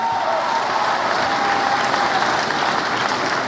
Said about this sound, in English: Please give a huge round of applause to Congressman John Dingell and his wonderful wife, Debbie Dingell.